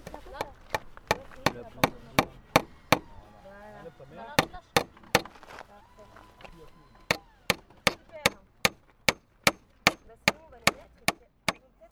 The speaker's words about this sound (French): Je fais une chaise tordue un peu. Pour qu'elle ait plus allongée. Pour qu'on ait plus à l'aise dedans. Plus à l'aise. Je vais la clouer avec un marteau.